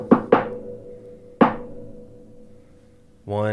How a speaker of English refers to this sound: And he takes you up to the wagon, knocks on the door, this like particular knock.